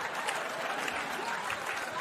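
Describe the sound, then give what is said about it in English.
Sustained audience applause, a standing ovation for a joke about Trump snorting cocaine, a dense, steady wash of many hands clapping at an even loudness throughout, with a faint murmur of crowd noise underneath. “Also, another standing O for the Trump snort and cocaine joke.”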